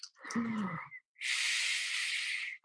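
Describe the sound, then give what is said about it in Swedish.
Breathing through a handheld mouthpiece device: a short, wheezy inhale with a low whistling tone, then a longer, steady, airy hiss as the breath is pushed out. No one speaks. “Och jag älskar ljudet när man andas i den här.”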